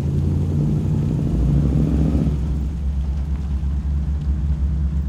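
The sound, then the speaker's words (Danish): A man starts a car; the engine turns over and settles into a deep, steady rumble, loud, with a brief rev near the start before it idles low and continuous. “I samme moment manden starter bilen, tænder Lisa alle sine sanser. Bilen rumler, som et stort, sultent dyr.”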